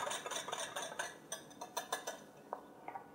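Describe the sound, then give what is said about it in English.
Rapid, rhythmic metallic clinks and scrapes of a whisk against a bowl, whisking a sweet honey salad dressing until thick, a steady flurry of bright taps that grows sparser and more spaced out toward the end, with no talking. “And just whisk all of that together. And you'll get a nice thick dressing.”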